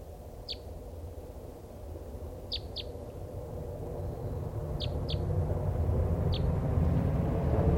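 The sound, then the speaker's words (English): Short, high-pitched call notes of a bird, about six in all, some in quick pairs, sound sparsely over a steady low rumble of background noise. It is the one bird of a flock of five that is still not caught, and its call sounds like a type three. “It sounds like a type three.”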